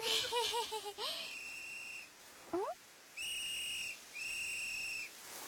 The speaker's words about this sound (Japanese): かすかに笛の音が。